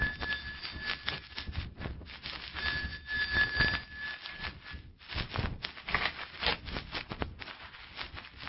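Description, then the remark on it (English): A doorbell at Dr. Hanson's house rings continuously at night for about five seconds over a background of shuffling noise, then falls silent while soft footsteps and rustling carry on. “I drove over to his house that night, walked the door, rang the bell.”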